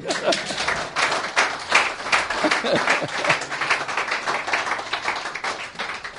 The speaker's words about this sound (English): Okay, I didn't ask you to clap. You wanted to clap, so do it properly.